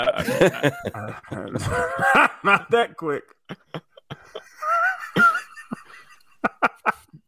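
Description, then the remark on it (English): A voice speaks briefly, then come a run of loud, rough breaths in uneven bursts with a drawn-out, strained groan in the middle. “Not like he was moving a piano upstairs the way that he was breathing.”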